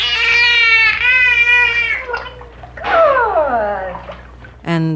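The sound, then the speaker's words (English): A dolphin, rolling over almost into the water with its blowhole to muffle the sound, makes drawn-out, wavering nasal tones through its blowhole, mimicking a human name in two warbling, voice-like phrases with a wet, gurgling edge, fairly loud. “He would eventually roll over almost into the water with the blowhole to muffle the mook.”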